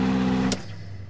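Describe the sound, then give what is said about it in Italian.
A car engine roars loudly with a steady mechanical drone as a woman starts the car, then abruptly cuts out about halfway through, leaving only a fainter, sputtering hum. “… accende la macchina. Il motore fa molto rumore, ma si spegne subito.”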